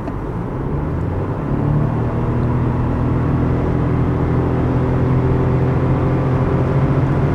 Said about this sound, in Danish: Og nu prøver jeg så at træde speederen i bund og accelerere til 110 km i timen.